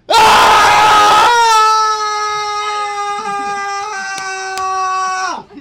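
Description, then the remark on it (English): Several voices burst into a loud shared scream to end a show, a noisy chaotic blast that narrows into one long sustained high yell held for several seconds before cutting off. “just end the show with a scream.”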